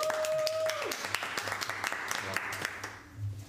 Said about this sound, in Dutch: En we hebben hier heel veel toeschouwers. Hè? Even klappen.